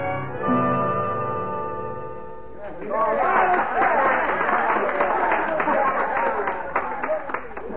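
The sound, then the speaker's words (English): A crowd at a street medicine show on a vacant corner breaks into lively, sustained applause after a few seconds of steady tonal sound, the clapping dense, with faint voices mixed in beneath it. “son, what's that crowd down the street? It's a medicine show, Hoppy.”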